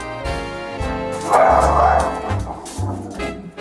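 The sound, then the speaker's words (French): A dog named Pastiche barks and yips repeatedly in short, loud bursts, with a busy background underneath. “Comment s'appelle votre chien ?”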